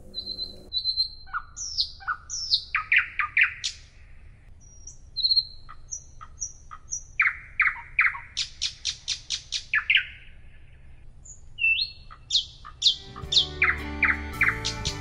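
A nightingale sings a rich, varied song of whistles, rapid trills and sharp repeated notes, loud, with brief pauses between phrases over a low background hum.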